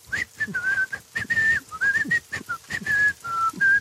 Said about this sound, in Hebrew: ועל פניו של מוקי עובר ילד כבן 10 רוכב על אופניו, עטוף בשכמיית גשם, על רגליו מגפיים גדולים, והילד לא אכפת לו דבר. הגשם שוטף, והילד מצפצף, שורק לו שיר עליז.